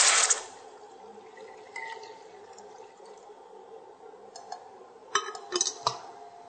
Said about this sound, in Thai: แล้วเราก็เริ่มเอาน้ำมาเติมค่ะน้ำ700มิลลิลิตรนะคะเติมน้ำไปเลยค่ะก็เสร็จแล้วเราก็เติมน้ำเปล่า